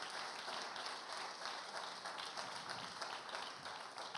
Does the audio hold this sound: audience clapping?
yes